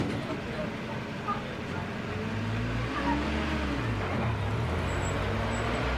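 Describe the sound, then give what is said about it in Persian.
A car engine hums steadily, its low drone shifting in pitch as the vehicle moves and then slows to pull up, with constant road noise underneath and faint voices in the background. “شیرزاد سوار ماشین میشه.”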